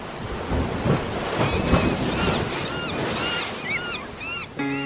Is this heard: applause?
no